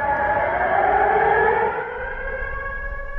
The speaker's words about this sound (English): Today, 1.5 million people defy the Russians by simply going about their day. Interrupted from time to time by sirens and a recorded voice, "Dear citizens, take cover."